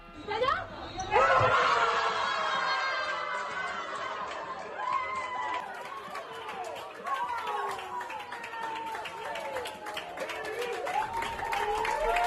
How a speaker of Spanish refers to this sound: Ahí estaba ese aplauso.